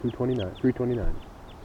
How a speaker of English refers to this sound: So recording, this is bird 229 responding to the wild birds. Nothing. Stop. Pointing at 229. I mean 329. Nothing. Wild birds in the background.